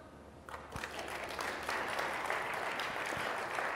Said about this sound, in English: Only one person in the balcony clapped. That's all right, though.